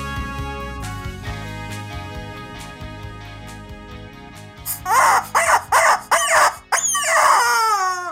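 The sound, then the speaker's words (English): A rooster crows loudly, a few sharp clucking bursts followed by a long drawn-out call, coming in after several seconds of soft background music. “Chicken says, I could have done as much for the state of Texas last week as the governor did.”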